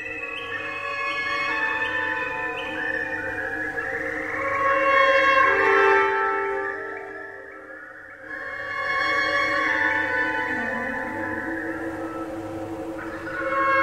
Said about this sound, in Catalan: té gravacions, té enregistraments d'ocells en directe, i quan l'orquestra està sonant, hi ha un moment que s'ha de posar el so dels ocells en aquell moment, que si esperem un moment així escoltarem els ocells.